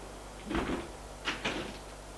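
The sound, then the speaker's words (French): A muffled thump against a door, followed a moment later by two quick, sharp knocks, with no one speaking. “Frappe à la porte.”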